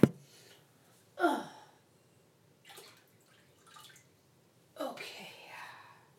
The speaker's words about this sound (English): So, I'm just filling up a water dish here.